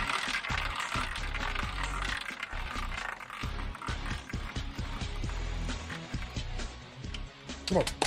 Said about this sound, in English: All right, it's that time. Let's spin the wheel.